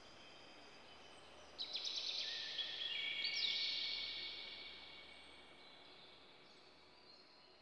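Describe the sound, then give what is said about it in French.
High, rapid bird trills rise out of a quiet outdoor hush, two overlapping bursts of song lasting a few seconds before fading into soft background ambience. “Écoutez maintenant le chant des oiseaux.”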